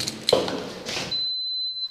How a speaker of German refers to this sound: Das ist natürlich alarmgesichert. Jetzt piept es hier an.